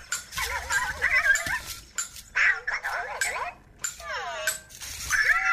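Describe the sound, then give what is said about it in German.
A Cosmo toy robot making happy sounds while playing a game: a lively run of high, warbling chirps and squeaks with swooping pitch glides, coming in short bursts with brief gaps, fairly loud and with no talking. “Man hat eben total gehört, wie der sich freut.”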